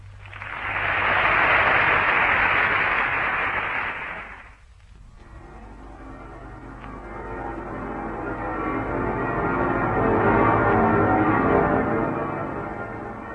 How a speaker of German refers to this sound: Von allen Türmen entbieten die Glocken der Stadt den Deutschen jenseits der Grenzen ihren ehernen Gruß.